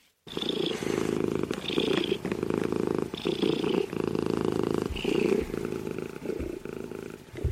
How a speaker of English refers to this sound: A cat's purr is one of the more distinctive sounds it makes, and it can even be felt as a vibration. But as common and delightful as purring is, scientists have long been confused about how it's possible to make that sound, until now.